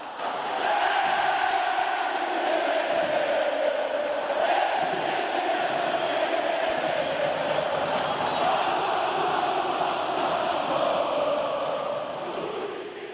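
A huge stadium crowd of football supporters sings the chant 'Não Se Compara' in unison, a dense, sustained roar of voices with steady melodic swells, loud and continuous throughout without any single voice standing out.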